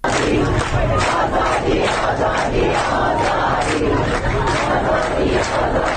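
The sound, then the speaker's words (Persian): A large crowd of protesters from Shiraz and Kazerun, Iran, gathered on Thursday in front of the governor's office, chants loudly in unison against repeated water and power cuts ("Water, electricity, life"), voices rising and falling in a steady, repeated rhythm that fills the whole clip with dense, shouted slogans. “گروهی معترض به قطع پی در پی آب و برق که مقابل استانداری تجمع کردند و شعار دادند”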